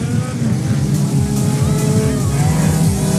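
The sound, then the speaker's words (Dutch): Several race car engines roar loudly and continuously, their pitches rising and falling over one another as the cars accelerate away together on the cleared track for a restart, on day 2 of the Speed Weekend at the MHB motor, car and moped club. “We rollen weer. De baan is weer vrij en dat betekent dat wij kunnen gaan herstarten.”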